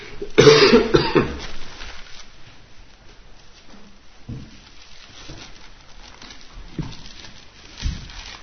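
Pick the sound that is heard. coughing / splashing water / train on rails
coughing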